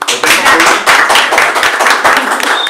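A crowd applauds with steady, dense hand clapping, loud and continuous from start to finish, the many claps blurring into a crackling wash with a few faint voices mixed in.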